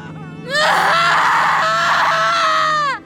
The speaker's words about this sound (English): I held my mother as she screamed, and I screamed with her.